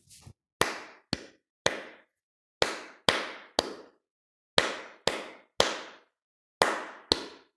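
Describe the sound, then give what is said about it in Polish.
Sharp hand claps of a short rhythm for a rhythmic echo exercise, in repeating groups of three, each set separated by a short pause, forming a steady rhythmic pattern with no voices. “Ja wyklaszczę krótki rytm, ty posłuchaj i zaraz spróbujemy wyklaskać go razem.”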